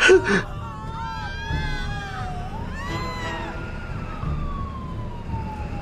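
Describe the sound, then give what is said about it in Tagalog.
An approaching ambulance siren wails with long sweeping tones that rise and fall, holding at a fairly steady, moderately loud level over a rumbling street background. “Nang dumating ang mga first responders, Sir Jupiter, nakita kong in-examine nila si Benji”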